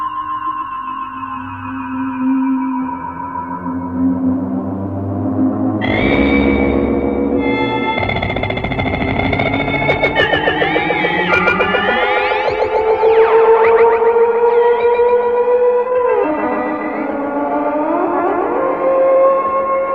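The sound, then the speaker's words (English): Eerie electronic tones from the 1956 film Forbidden Planet, made on electronic instruments built by Lewis and B.B. Baron rather than a theremin, waver with wide, slow vibrato, pure pitches gliding up and down over a droning, layered backdrop, loud and continuous like an otherworldly siren, with no voices. “'56's Forbidden Planet didn't use the theremin, but many of its sounds are theremin-esque. Wide vibratos, pure tones dipping and rising.”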